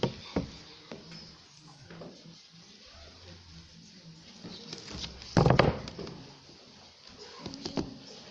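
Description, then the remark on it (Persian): Steady rain patters, a soft hiss of scattered drips and ticks with one louder, denser splash of drops partway through. No one speaks. “بارون میاد.”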